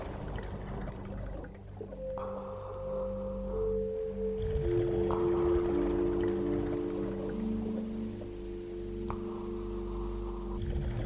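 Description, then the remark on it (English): Long, low moaning tones glide and overlap, humpback whale song heard underwater at the edge of a reef, set against a steady muffled wash of water. The calls are moderately loud and there is no talking. “You stop at the edge of the reef and look off into the cobalt waters ahead, where you can see the shadows of humpback whales moving about in the water.”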